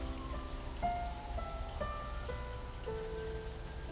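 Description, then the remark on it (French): Steady rain from a passing thunderstorm falls in an even, hissing wash with scattered drips. Soft sustained musical notes sound over it, changing pitch every second or so, and no one speaks. “Les orages s'éclaircissent, et c'est la fin de La Mousson.”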